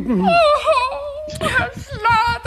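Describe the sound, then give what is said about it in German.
A woman cries, her voice wavering in high, drawn-out whimpers before breaking into ragged, breathy sobs that rise and fall over a couple of seconds. “Oh Gott, Himmel, weinen Sie nicht.”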